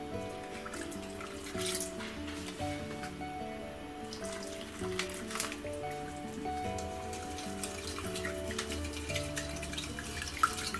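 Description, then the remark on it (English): Water trickles and splashes steadily as it is poured and stirred into jelly crystals in a bowl until they dissolve, with soft clinks and drips throughout, set against a continuous backing of gentle music; no one speaks. “Mix this through until the crystals have dissolved.”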